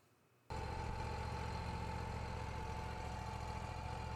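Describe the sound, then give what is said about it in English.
After a brief hush, a sawmill engine abruptly rumbles to life and settles into a loud, steady idle for a moment before cutting of a log begins, its low droning hum unchanging with no voices. “The engine idles for a moment and then cutting begins.”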